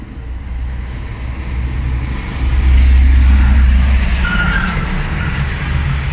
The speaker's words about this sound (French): Un camion à charge, bien. Voilà. Oui, parce que même un camion à vide, ça fait un bruit pas possible.